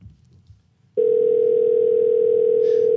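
After a second of quiet, the ringing tone of a phone call placed from Australia to a cell phone sounds as a single steady, mid-pitched electronic tone lasting about two seconds, loud and unwavering, then cuts off abruptly.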